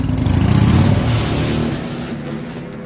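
A motorcycle is kick-started and its engine revs with a loud, deep roar that swells in the first second, then eases and fades slightly as it continues, with no voices.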